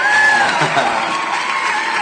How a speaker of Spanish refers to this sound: A ver si no se oye otra vez como ametrallador ese asunto. A ver, los aplausos.